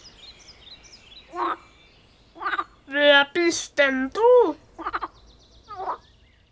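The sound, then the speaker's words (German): A voice mimics a tree frog's croaking in a few short, raspy bursts, mixed with a spoken question in a playful, nasal tone, fairly loud over a quiet background. “Der Laubfrosch quakt und fragt.”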